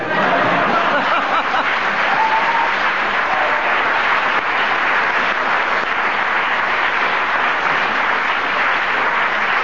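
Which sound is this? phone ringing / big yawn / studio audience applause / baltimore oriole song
studio audience applause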